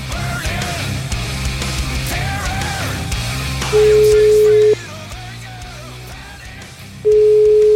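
A telephone ringback tone from an outgoing call placed on the Radio 24 show sounds twice, each steady one-second beep loud and clear, separated by a long pause, over continuous background music.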